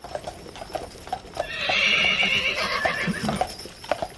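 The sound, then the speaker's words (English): A horse used for traveling cross-country whinnies in a long, bright neigh lasting about a second, while hooves clip-clop in a steady rhythm beneath it and continue after the call fades. No one speaks. “sisters from West Branch, will be traveling cross-country by horse”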